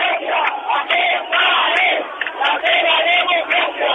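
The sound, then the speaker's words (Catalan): A large protest crowd, standing with hands raised in the air, shouting together, a loud, dense mass of voices that swells and dips in waves without pause for the whole stretch. “la gent diu que ens pegui, però la gent no carrega, la gent ja està a peu, mans al aire, i crit, que suposo que arriben.”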